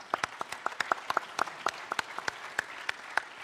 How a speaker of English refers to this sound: Before you all started clapping, I was going to say, if you just went, aw, then you have to clap.